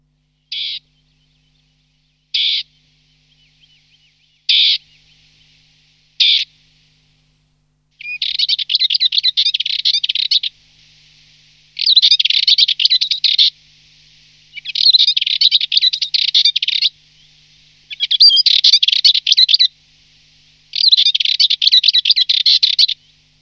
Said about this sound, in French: Cette fauvette qu'on vient d'entendre, c'est la fauvette pitchou. On l'appelle la fauvette pitchou, c'est une toute petite fauvette que l'on trouve particulièrement de façon importante dans les garrigues